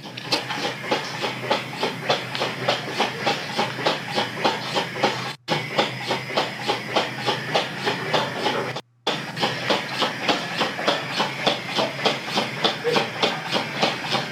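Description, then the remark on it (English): A ceiling fan running in a bedroom clicks steadily, about three sharp ticks per second over a constant whirring hiss, with no one talking; the sound cuts out twice for a split second. “That clicking sound is a ceiling fan that's running obnoxiously through all this.”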